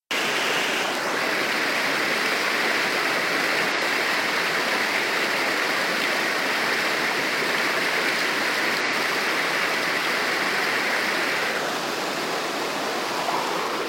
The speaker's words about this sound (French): Après 1 km de brasse et crawl ou 1 petite heure d'aquabike, je peux me laisser envelopper par les bulles. Bousculer par les jets massants.